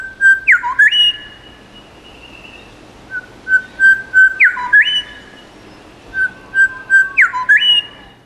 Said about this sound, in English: It is the grey shrike thrush. Neither a shrike nor a thrush.